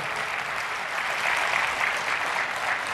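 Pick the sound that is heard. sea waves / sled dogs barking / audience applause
audience applause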